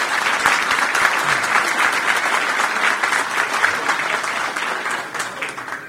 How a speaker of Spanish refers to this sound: a quien les pido que le demos un fuerte aplauso de bienvenida.